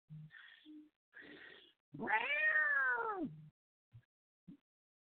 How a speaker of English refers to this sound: Sounds like a baby kitten mewing.